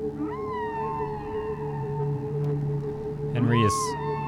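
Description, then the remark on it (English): A long, moaning whale-like call with wavering tones that swoop upward into a brief squeal near the end, most likely a human voice imitating a whale, fairly loud. “now joined by our friend Henry the Hudson Whale.”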